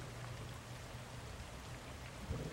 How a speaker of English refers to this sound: The storm there is in the Everglades in Florida.